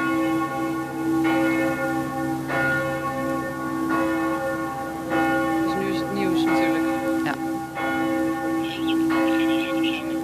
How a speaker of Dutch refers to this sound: En u hoort de kerkklokken nog op de achtergrond.